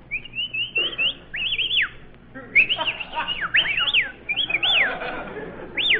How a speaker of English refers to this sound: Well, we may as well whistle at each other. The soldiers got all the girls.